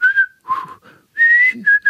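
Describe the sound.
A person whistles a short, lively melody, the pitch gliding between held and quick notes with brief pauses between phrases.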